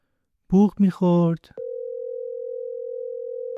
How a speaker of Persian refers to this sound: بوق میخورد و بالاخره مامانم گوشی رو برداشت.